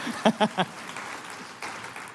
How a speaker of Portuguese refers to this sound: Sei bem porque vocês estão aplaudindo, não, mas é bom aplaudir.